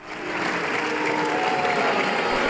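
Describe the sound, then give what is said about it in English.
A large crowd of European Parliament members booing European Commission President Jean-Claude Juncker as he defends his conflict of interest as former Prime Minister of Luxembourg, a dense, steady roar of many voices that swells in quickly and holds at a loud, even level, with no single speaker standing out. “Those are members of the European Parliament booing their European Union Commission President, Jean-Claude Juncker, as he tries to defend his conflict of interest as the former Prime Minister of the tax haven of Luxembourg.”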